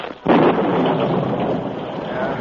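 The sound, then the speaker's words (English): A loud crash of thunder from a sudden rainstorm bursts in suddenly after a brief quiet moment, then rolls on as a dense, roaring rumble that stays strong to the end. No voices are heard. “As he rode, a sudden storm broke.”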